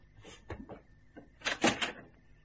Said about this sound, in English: The door to the yard opened.